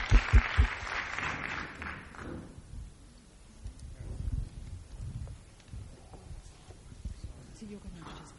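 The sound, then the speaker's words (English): A brief burst of audience applause for the members of a discussion panel, dense and fairly loud, fades out after about two seconds, leaving low murmuring voices and shuffling. “So I'd like you all to give them a big round of applause, and then we're going to switch to the second panel.”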